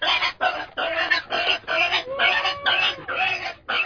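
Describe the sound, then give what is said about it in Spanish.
A pig named Pascual grunts loudly and insistently on a full-moon night, a rapid run of about eight harsh bursts with brief gaps between them, no voices present. “Pascual lanzaba verdaderos rugidos.”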